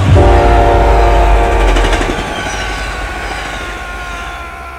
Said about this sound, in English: The train howled angrily by, and I was nearly pulled under the wheels by the slipstream, but I grabbed hold of McGuire's meaty carcass and held on fast. The train was gone as quickly as it came.